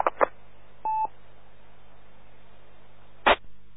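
A single short telephone keypad beep, a clear two-tone electronic note lasting a fraction of a second, set among a few brief clicks and rustles over a faint low hum.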